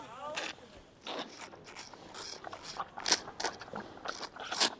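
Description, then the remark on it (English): A panda at a panda centre munches bamboo: a steady run of crisp, crunchy bites and splintering snaps, about two per second, fairly loud against a quiet background. “As pandas munch their bamboo, he stresses the animals are not going hungry.”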